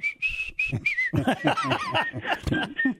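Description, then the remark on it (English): A man whistles a short, wavering tune, a few sliding notes at first, then the whistling carries on mixed with louder voiced, sing-song vocal sounds. “Why is he whistling some weird stuff?”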